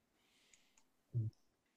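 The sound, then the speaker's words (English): Two faint, quick clicks are followed by a louder, dull tap as someone clicks an unmute button. There is no talking, just a quiet background hiss. “We're both clicking unmute.”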